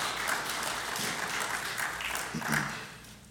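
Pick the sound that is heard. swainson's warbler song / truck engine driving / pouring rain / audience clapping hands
audience clapping hands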